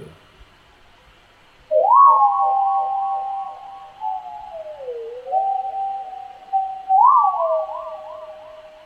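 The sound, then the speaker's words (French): A synthetic electronic whistling tone, generated from a soundscape recorded on Tchegera island, enters after a brief quiet and warbles steadily, its pitch sliding down into a lower wobble, then jumping back up into a fast, siren-like trill. “On bascule dans autre chose, un son de nature électronique, là on l'écoute seul, mais c'est généré par le paysage sonore, c'est pas moi qui essaye de l'inventer.”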